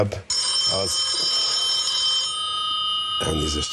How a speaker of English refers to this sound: There's a bunch of parties that ran in this election, and this candidate was from a satirical political party called the Two-Tailed Dog Party. During his 5 minutes, in the middle of his speech, he got a call on his cell phone.